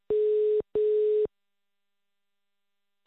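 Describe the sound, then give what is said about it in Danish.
A telephone ringing tone heard over the line during an outgoing call from Radio 24/7: two short, steady electronic beeps in quick succession, then a pause before the next one starts. Thin and phone-filtered, with no voices. “vil du ikke være sød og ringe op og prøve at få fat i Alexandra?”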